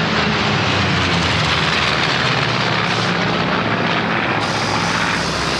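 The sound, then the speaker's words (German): An Alpha Jet military jet roars overhead above the forecourt of a festival's main stage, a loud, dense, sustained rush of engine noise that fills the whole stretch, shifting slightly in tone as it passes, with no voices. “Also hier am Vorplatz zum Mainstage fliegt jetzt nochmal der Alpha-Jet drüber.”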